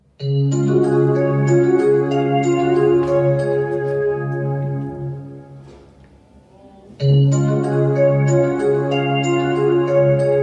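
A loud electronic school bell in a middle school plays a sustained melodic chime for several seconds as pupils go up to class, fades briefly, then rings out again just as strongly. No voices are heard.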